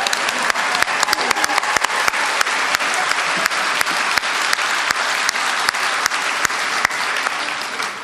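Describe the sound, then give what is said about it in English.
An audience claps steadily for about eight seconds in appreciation of the anti-war movement in the United States, a dense, even patter of many hands with a few sharper individual claps standing out; no one speaks over it. “I'll give them a clap.”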